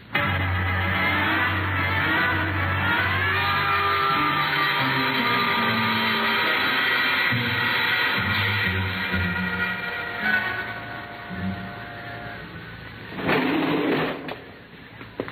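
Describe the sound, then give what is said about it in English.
A service elevator descends to a basement garage with a steady low mechanical drone and faint whine, running continuously before a brief rushing clunk near the end as it settles. “There's a service elevator that leads to the basement garage.”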